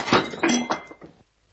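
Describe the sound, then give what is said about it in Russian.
A thrown plate crashes and clatters loudly, with several sharp clinking impacts in quick succession as pieces rattle and settle, then silence. “Еще одно слово, и следующая тарелка полетит вам в голову.”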